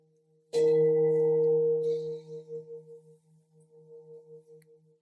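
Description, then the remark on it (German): The third gong strike, with a sharp attack, then a rich, low humming tone that slowly fades with a pulsing, wavering shimmer for several seconds. No voices. “Beim dritten Gong reck und strecke ich mich liebevoll, öffne die Augenlider.”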